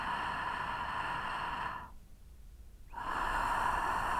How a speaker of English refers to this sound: you may find yourself breathing through the mouth, but if you just let the breath adjust itself, you're likely to find yourself breathing through the nose, which is more natural. The friction noise remains the same, both when inhaling and exhaling.